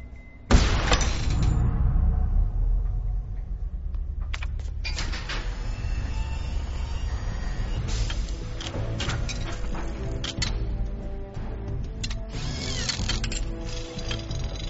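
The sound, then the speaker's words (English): A small motorized lock-picking device whirs and buzzes steadily, with scattered metallic clicks and rattles as it works on a door lock for over ten seconds, no voices. “It's like a little device. It's like a thing that's going to pick the lock.”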